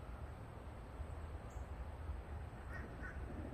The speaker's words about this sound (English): The thunder's backing me up. The crows are backing me up and the thunder gods.